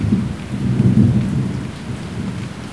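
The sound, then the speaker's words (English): An Indian monsoon thunderstorm with lightning: a deep, continuous rumble of thunder rolls beneath steady, dense rainfall coming down in sheets, loud and enveloping throughout with no voices. “Thunder, lightning, the rain coming down in sheets, vegetable sellers scurrying for shelter, plastic sheets wrapped around them as makeshift raincoats.”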